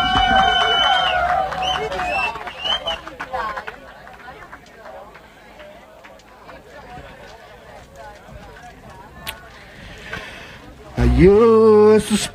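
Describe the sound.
An audience claps and cheers in a steady, dense patter that fades a little over several seconds, before a loud solo voice abruptly starts singing a cappella at the end.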